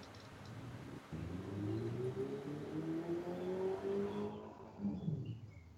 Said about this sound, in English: I hear car. Now I hear cars. I think that's on Ralph. Yeah, let me close my window. There's lots of cars. High traffic area.